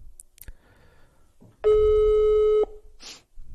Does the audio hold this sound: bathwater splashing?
no